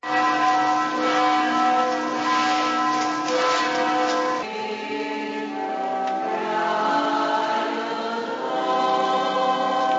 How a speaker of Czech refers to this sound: Od jutra se sa svih subotičkih crkava oglašavaju zvona kojima je označen početak jutarnje mise, a koju većina vernika ne želi da propusti.